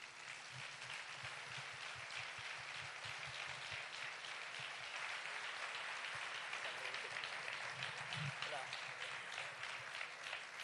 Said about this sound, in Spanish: Recibimos con un aplauso